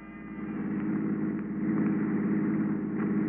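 An old touring car engine runs steadily at a low idle-like rumble, moderately loud, holding an even drone throughout with no voices.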